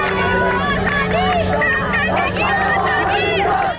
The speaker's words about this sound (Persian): آبادان شاهد حضور پررنگ مردمی بود که زن، زندگی و آزادی را فریاد می زدند.